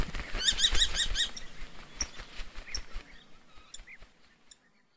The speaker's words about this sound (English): The hovering kestrel.